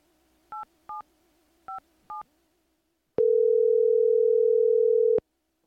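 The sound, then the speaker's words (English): Four quick touch-tone beeps as a phone number is dialed to call a polar bear expert, followed by a pause and then one long, steady ringing tone. It is clear, with no voices. “Before the break, I was just about to pick up the phone to call a real polar bear expert.”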